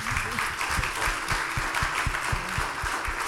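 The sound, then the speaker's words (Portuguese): An audience applauds two guests, one of them a pastor, steadily, a dense wash of many hands clapping that holds at an even level for several seconds, with faint voices or murmurs mixed underneath. “E pedir mais uma vez uma salva de palmas.”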